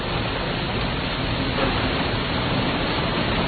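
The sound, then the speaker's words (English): Heavy, intensifying rain pours steadily against a window, a dense, unbroken hiss and patter at constant loudness with no voices. “Speaking of chaos, though, I just want you to hear the sound of the rain on the window right now because it's really intensified.”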